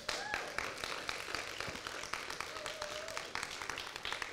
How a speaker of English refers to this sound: Everyone on this board puts a lot of effort, time into everything that happens here. And I don't know if they always get the recognition they deserve. So if we could just give them a round of applause.